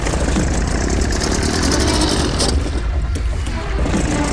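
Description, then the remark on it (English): A boat engine at a dock cranks without catching, a loud, unbroken mechanical churning that holds steady for several seconds with no voices. “Damn it, it won't start.”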